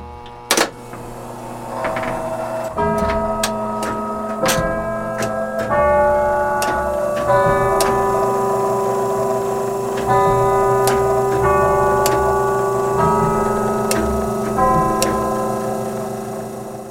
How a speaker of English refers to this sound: Today, he's showing me all kinds of things he's worked on around Catalina, and he can't wait to play the chimes for me. Play your tune here with the Westminster Melody.